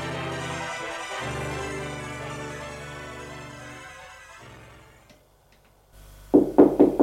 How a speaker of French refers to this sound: On a frappé à la porte.